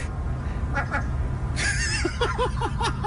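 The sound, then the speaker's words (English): A seagull gives a series of short, sharp yelping calls that sound much like a small dog barking, several in quick succession over a low rumbling background. “So this guy's filming this seagull, and it sounds... It sounds like a little chihuahua.”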